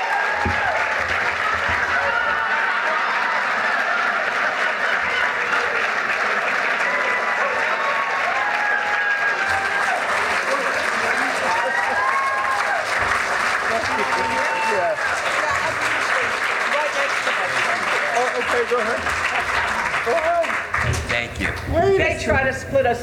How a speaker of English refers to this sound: Can we do that again? I haven't heard that much applause since MASH went off the air.